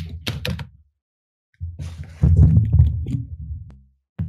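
A microphone gets knocked over: a few dull thumps and clatter, a brief silence, then a longer run of low rumbling bumps and scraping handling noise, ending in a sharp knock.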